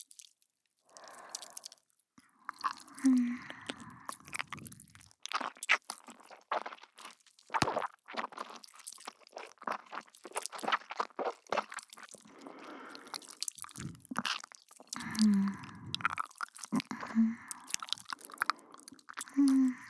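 Close, wet chewing with soft mouth clicks and squelches repeating irregularly for the full stretch, with a few muffled gulping swallows in between; quiet and intimate, no one talking.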